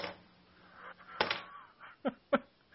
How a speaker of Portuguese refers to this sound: Caneta caindo aí